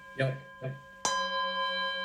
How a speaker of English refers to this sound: So I'll be the timekeeper, so you don't have to worry about that. And I have a bell that starts it like that. Can you hear that?